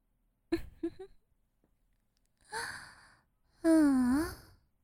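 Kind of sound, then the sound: human body sound, heavy panting breaths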